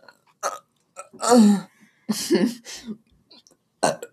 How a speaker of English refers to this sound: Can you not burp into my microphone? Sorry.